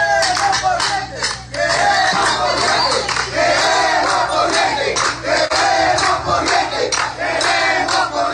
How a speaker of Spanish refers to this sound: Se incrementan los toques de cazuelas en Cuba ante los prolongados apagones, informan cubanos residentes en las poblaciones donde se protestó. Así se expresaron residentes en la calle, en varios pueblos de la isla, este lunes en la noche.